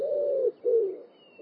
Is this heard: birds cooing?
yes